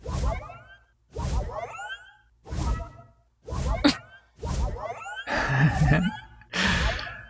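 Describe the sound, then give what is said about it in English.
A game mount effect for a fractal mount bought off the GTN repeats about seven times, roughly once a second, at each mount and dismount: a loud airy whoosh followed by a shimmering, sweeping fractal tone, heard alone without talk. “And so now you get that whoosh and then the fractal sound every time I'm mounting and dismounting.”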